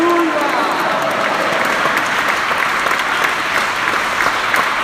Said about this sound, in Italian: Grazie Spirito Santo, un applauso a Gesù il Signore e alla potenza del suo nome più forte.